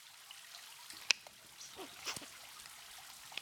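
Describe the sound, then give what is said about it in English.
Thick lube trickles and dribbles quietly from a bottle as it is poured onto a person's backside, with one sharp plastic click early on and a few soft wet squelches after. It's faint, with no talking. “I'm gonna turn around and pour some of this lube all over my ass.”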